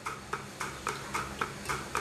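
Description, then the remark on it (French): A milking machine pulsator ticks during the milking of dairy cows, in a steady, rapid rhythm of about four soft hissing clicks per second, even over a low mechanical hum, with no voices. “Ça, c'est la pulsation.”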